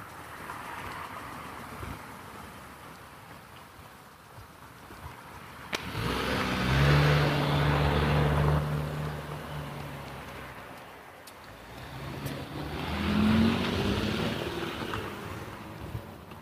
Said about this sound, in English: Cars everywhere here this morning. That's what I get for missing the dawn patrol.